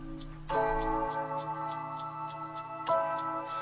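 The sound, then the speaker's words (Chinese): A steady clock ticking in a quick, even rhythm marks a countdown, running over sustained musical chords that swell in twice, with no voices. “倒数开始，滴答滴滴答滴答滴答滴答滴答滴滴答滴滴答滴答滴答滴答滴答滴。”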